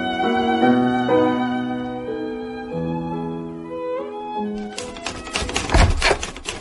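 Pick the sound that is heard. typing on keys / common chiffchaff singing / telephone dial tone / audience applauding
typing on keys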